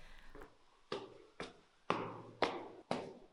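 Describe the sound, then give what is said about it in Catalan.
Footsteps climb stairs up to the second floor of a building in a steady rhythm, about six firm thuds, each with a short echoing tail and no voices. “El segon pis, m'ha dit l'X, no? Pujo.”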